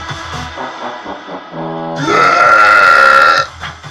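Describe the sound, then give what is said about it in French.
A loud, drawn-out burp that swells after a brief lead-in, holding a strong resonant tone for over a second before cutting off, with no talking around it. “Oh, le rot début, trop bien.”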